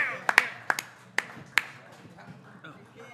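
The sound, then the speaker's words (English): At a live music show, an audience gives a performer a round of applause: a handful of sharp, scattered claps ring out, about six irregular hand claps in quick succession, before tapering off into a quiet murmur with faint voices underneath. “Well, y'all get this man a round of applause.”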